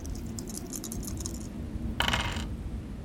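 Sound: dice being rolled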